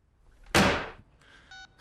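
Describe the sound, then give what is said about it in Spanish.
A sharp plastic clunk of a phone handset being set down hard, its sound ringing out and decaying, followed by brief faint electronic tones from the line. No voices. “He colgado el teléfono.”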